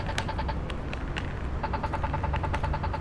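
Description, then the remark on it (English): A crosswalk pedestrian signal button chirps in rapid, evenly spaced ticks, pausing briefly before resuming, over a steady low rumble of street traffic. “This button's easy to hear, but let's say it wasn't.”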